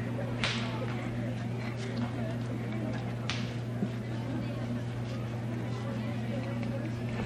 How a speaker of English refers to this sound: While they're coming in, will somebody tell those whip crackers that I'm going to skin them alive if they don't get away from there cracking that whip? They go on. If they want to crack it, go way on up there where they belong.